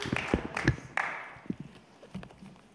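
Scattered audience applause, a loose patter of claps with a few sharper, louder hits. Fairly quiet overall, it thins out toward the end, with no voices over it.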